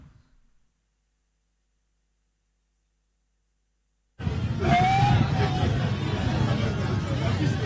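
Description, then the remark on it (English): Silence gives way abruptly, about halfway through, to the loud, dense din of Bodua Lorry Station in Akwetia, a busy outdoor transport station serving as a polling station where vote counting has just ended: crowd chatter and traffic noise, with a short rising whistle cutting through. “Well, for see, this is Bodua Lorry Station, and the counting just ended.”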